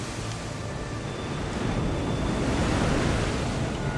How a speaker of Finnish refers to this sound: Tuuli yltyy riepottamaan lakanapurjettasi. Öisillä merillä ohueksi kulunut kangas antaa lopulta periksi puuskalle, joka repäisee lakanan halki.